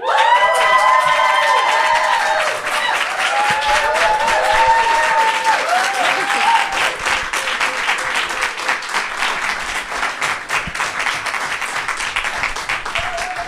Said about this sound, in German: Gebt einen herzlichen Applaus